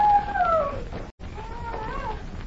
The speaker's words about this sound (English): Yes, yes, I hear it. It's a howling dog.